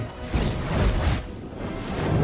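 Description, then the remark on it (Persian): A broad roaring whoosh of fire swells and surges for about two seconds, rumbling low with a hissing rush on top, loud with no voices. “آب، خاک، آتش”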